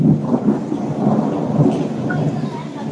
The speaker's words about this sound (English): So says the heavens. Can you hear the rain? I'll be quiet for a moment. Yeah. It's a little rainy season here, just like it was in Florida, but I'm in a rainforest right now.